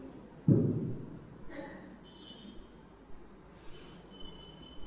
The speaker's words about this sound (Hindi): तो अभी अगर किसी के प्रश्न हो जैसा पूछे, मैं और ज़्यादा अभी नहीं तो और ज़्यादा नहीं कहूँगा, क्योंकि लगते है तो कथा के बीच कॉफ कॉफ ज़्यादा आता है अभी।